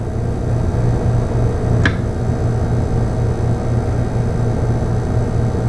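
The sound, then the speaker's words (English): The compressor motor of a GE model TBX refrigerator, running on pure sine wave inverter power, hums steadily, a low droning tone over a faint hiss, with one brief sharp click early on and no voices. “Now we will switch to pure sine wave inverter power.”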